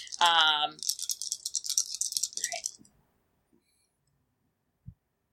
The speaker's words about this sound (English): Okay. I got 2. Alright. I'm gonna reroll 2 agility dice.